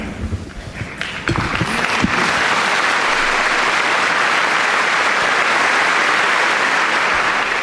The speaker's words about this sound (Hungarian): Nagy taps jelzi, hogy sokan vannak a 6. Pál teremben, és így köszönik a Szentatyának az áldását, az ő szavait.